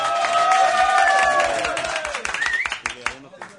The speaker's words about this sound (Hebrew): רבותיי, יש פה גם עשרות ומאות בחורי ישיבה שפשוט, סליחה שהפרענו לכם מהסיידר ומהתורה, אפילו באמצע פורים יצאתם מהגמרא, אבל תודה רבה שבאתם. כפיים לכל בחורי הישיבה שבו.